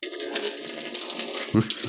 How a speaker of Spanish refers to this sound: El hombre desmayado recibe en pleno rostro el chorro de agua y se sacude tosiendo.